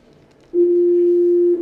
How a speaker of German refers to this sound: Also das ist jetzt das, was wir gerade hatten. Ja? Das ist der Sinuston von 349 Hertz, der, ja ganz langweilig, natürlich diese Sinuskurve gibt.